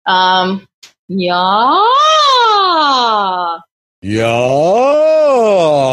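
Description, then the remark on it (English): A voice performs smooth siren glides as a stretch for the vocal cords, sliding up to a peak and back down in long wavy arcs, two sustained sweeps after a brief short tone, with no words spoken. “So a nice siren glide.”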